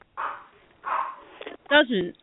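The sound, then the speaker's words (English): Small dogs squabbling with chihuahua-like yapping: two harsh, raspy bursts, then a pair of shrill, wavering yelps that slide up and down in pitch. Fairly loud, with no talking. “That sounds is like a chihuahua. Is someone blowing their nose? No. Sounds like dogs fighting.”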